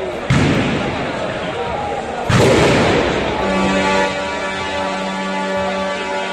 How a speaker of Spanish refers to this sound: Esta mañana han vuelto a sonar los pitidos, los petardos y los gritos.